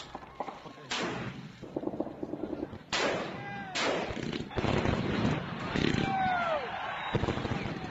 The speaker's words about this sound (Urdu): کابل میں رات کے 12 بجے تھے. لمحوں کے بعد معلوم ہوا کہ پورے افغانستان میں لاکھوں شہری جاگ رہے تھے اور کابل، قندھار، جلال آباد، خوست، پکتیا شہروں سمیت متعدد دیگر شہروں میں تاریک رات کی آسماں خوشیوں کی گولیوں سے گونج اٹھا.